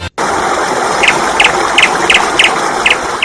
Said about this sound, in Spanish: Pues ese pajarito que escuchas, esa Acuona que dice que necesitas una respuesta inmediata a alguna de las gestiones del agua